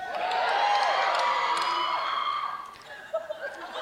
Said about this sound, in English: Someone just yelled the loudest they yelled all conference right there.